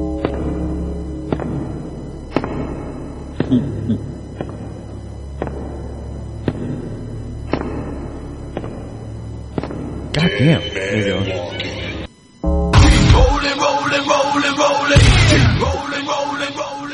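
The Undertaker's wrestling entrance theme opens with slow, evenly spaced booming strikes about once a second over a low drone, then after a brief cutout erupts into loud, dense music.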